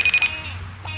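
mobile phone ringing

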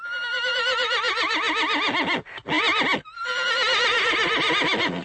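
horse neighing

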